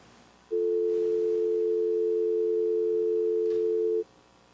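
A loud, steady telephone dial tone hums without a break for about three and a half seconds as a City of Branson meeting places a phone call to an applicant, then cuts off cleanly, leaving faint background hiss. No one speaks.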